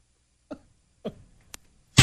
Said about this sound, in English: That's an artificial intelligence fart. See, it's a robot fart. That's a mean robot fart. Does not compute. Like, we finally found the sound. An electronic fart.